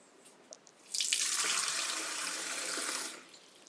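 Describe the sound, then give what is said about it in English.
A kitchen tap is turned on to fill water for a dog named Vance. It runs steadily for about two seconds, a broad hissing rush of water into a bowl or sink, then shuts off. A couple of small clicks come before it. “Is that you want more or you want water? You're out of luck if you want more. Can I get you some water?”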